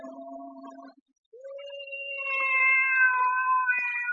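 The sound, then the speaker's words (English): A cat, carried under a man's coat, meows twice: a brief cry, a short pause, then a long, drawn-out, wavering yowl that grows louder toward the end. No one speaks. “What are you doing with that cat under your coat, Weary?”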